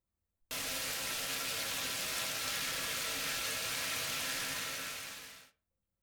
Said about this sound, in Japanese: お湯はこの量でいいの。これね、花びらをお湯に浮かべて、勢いよくシャワーを当てると。